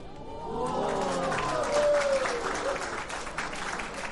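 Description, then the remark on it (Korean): A crowd bursts into steady applause at a performance in the central hall of the National Assembly Members' Office Building in Seoul, during an exhibition marking the 70th anniversary of liberation: dense clapping that swells and holds for several seconds, with a few faint voices or cheers rising briefly within it. “박수처럼 말이죠.”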